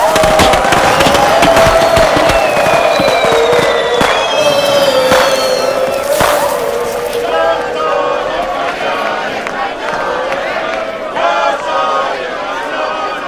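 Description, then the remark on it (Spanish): Small fireworks crackle and pop out of a wastebasket in quick, irregular bursts with a few thin whistles, over the murmur of a crowd; the popping thins out in the second half while the crowd noise continues. “De la papelera salen leves fuegos artificiales.”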